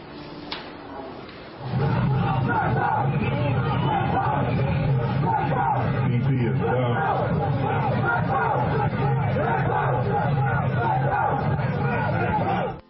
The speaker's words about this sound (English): Black power was being chanted, though, among these protesters, looters, throughout the night. Listen.